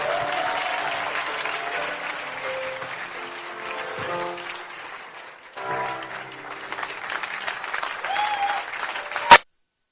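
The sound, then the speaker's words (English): An audience applauds steadily for their pastor for several seconds, a dense wash of many hands clapping that briefly dips, then swells again before cutting off abruptly. “Give a big hand for your pastor, please.”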